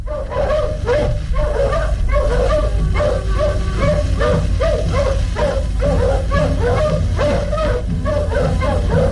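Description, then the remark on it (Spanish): A pack of wolves pulling a stretcher like a sled barks and whimpers almost continuously, a dense overlapping chorus of short yelps and higher whining cries over a low steady rumble, loud throughout. “Regresa hacia la manada de lobos y una vez estos reanudan la marcha jalando la parihuela a modo de trineo, donde viaja Calimán desmayado.”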